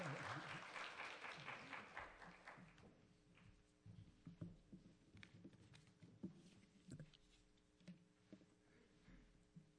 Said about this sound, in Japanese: じゃあ拍手を持ってお迎えします。